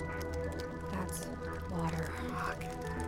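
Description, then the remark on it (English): Water drips and leaks with wet, squelching splashes over a steady, resonant low hum, a few louder drips standing out. “Water is bad news.”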